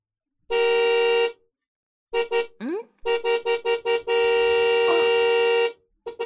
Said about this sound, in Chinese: 你爸好像在按喇叭，应该是你爸，他回来了吧。儿子， 儿子，快出去看一下，应该是你爸在按喇叭呢。